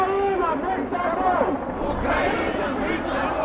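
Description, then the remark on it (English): A dense crowd at the March for Peace in Moscow, Russia, murmurs and chatters continuously, with overlapping voices and occasional raised tones rising above a steady, loud hubbub of many people. Police estimated the crowd at 3,000. “Take last week's March for Peace in Moscow.”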